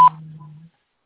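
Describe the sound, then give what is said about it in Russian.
An answering machine beep: a quick high electronic chirp followed by a steady, low-pitched tone that holds for about half a second before cutting off, with no voices. “Пожалуйста, оставьте сообщение после гудка или перезвоните позже.”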